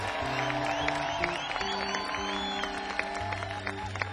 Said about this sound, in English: He's made his debut at Gray Fox. Give him a big round of applause, if you would.